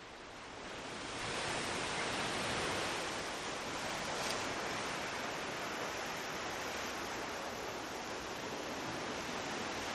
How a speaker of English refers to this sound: Should we hear a little waves? Ocean. Let's hear a little bit of the waves.